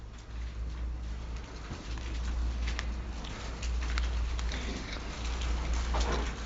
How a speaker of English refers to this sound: I have to tell you that it's really calming and it's sweet to hear rustling of pages as you're looking through scripture. As a Bible teacher, that's a really nice sound.